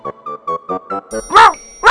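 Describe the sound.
A child's high voice yips like a dog, six short, evenly spaced woofs in quick succession, followed by two louder, harsher bark-like bursts.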